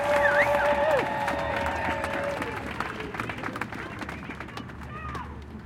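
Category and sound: crowd, crowd applauding and cheering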